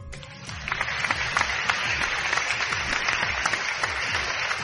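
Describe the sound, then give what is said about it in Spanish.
A crowd applauding steadily to celebrate someone obtaining a Shiny Celebi in a Pokémon Mystery Dungeon game, a dense wash of many hands clapping at a fairly loud, even level throughout, with no voices standing out. “Y aquí celebramos tu logro. Aplausos.”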